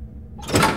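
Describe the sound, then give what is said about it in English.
A small door slot slides open with a short scraping rasp that swells in over a low background hum, lasting under a second with no voices. “When the slot opens, just shove it out like normal.”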